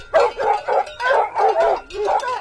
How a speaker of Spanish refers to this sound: Ladraron los perros, lanzándose furiosamente sobre el lobo.